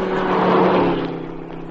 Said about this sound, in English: Listen. Car coming.